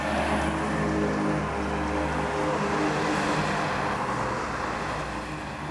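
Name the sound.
road traffic passing by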